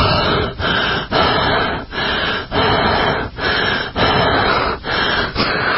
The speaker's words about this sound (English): Why? You're breathing so heavily again.